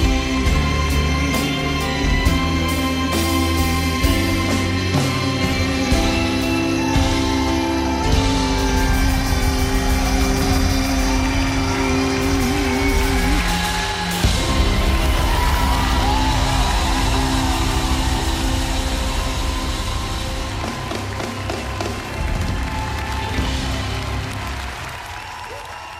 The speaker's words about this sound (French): Voilà, c'est donc sur ces applaudissements pour la chanteuse